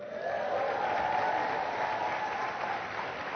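A church audience claps steadily for several seconds for a member who was baptized on Friday, a dense, even wash of many hands with no voices over it and no letup in loudness.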